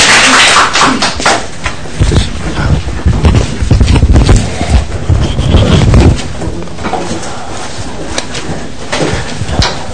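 An audience applauds steadily for several seconds, a dense patter of many hands clapping, loudest in the middle and then thinning out toward the end.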